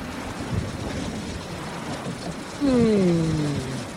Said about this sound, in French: Et puis, il y a la pluie. La pluie, justement. Voilà le premier grain.